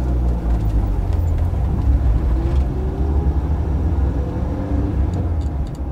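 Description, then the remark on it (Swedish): A car engine rumbles loudly, a steady low drone as the car starts off hard, pulls out of a parking lot and keeps driving, with no voices. “Bilen rivstartar och de kör ut från parkeringen.”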